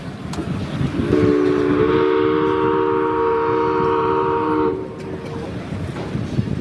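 A steamship's horn sounds one long, steady, low blast for several seconds over a continuous churning rumble, then cuts off while the rumble carries on, as the steamship reaches a holiday destination.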